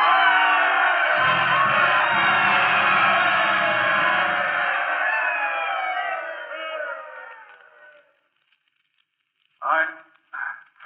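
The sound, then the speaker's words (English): A large stadium crowd on its feet roars and cheers for Lou as he comes up to the microphone, a loud, sustained wall of noise that slowly fades out over about eight seconds, followed by a brief pause and a man beginning to speak. “And the crowd rose to its feet and they told him they loved him.”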